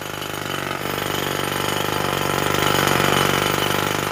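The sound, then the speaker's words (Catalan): Rapid, relentless hammering of a hammer on stone in a quarry, a dense stream of loud strikes that keep a steady machine-like rhythm for the whole stretch, with no voices. “Quan tanco els ulls, encara em sembla escoltar el soroll del martell picant, picant i picant la pedra.”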